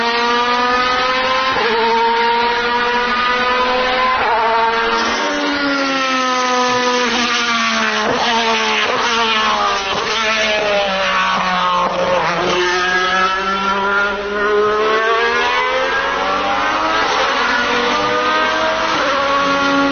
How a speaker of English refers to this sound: No, so that is an Alpha 155 DTM car from early 90s, early to mid 90s. Was it the four-wheel drive? Yeah, four-wheel drive, V6.